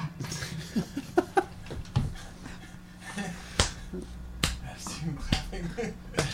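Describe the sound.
Sharp hand claps land at uneven intervals, never settling into a steady beat, with several scattered, sometimes doubled, over a low background murmur of voices.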